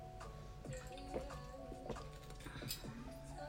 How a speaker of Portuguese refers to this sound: Ah, vou beber um bocado de água para relaxar deste tema.